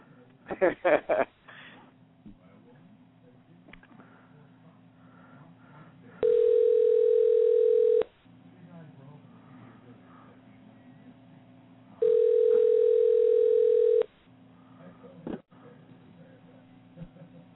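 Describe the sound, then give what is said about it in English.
Telephone tones while a call is placed: two loud, steady electronic beeps, each about two seconds long and separated by a pause, over a low background hum after a few short clicks. “Well, I'll call her real quick, and we'll see.”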